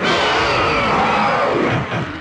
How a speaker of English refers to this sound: Oh my gosh. Oh no. That is just a roar. That does not even sound like it. That's not even from Monster Hunter. Iconic roar. I'm going to say, I'm locking in that is the Yen Katku itself.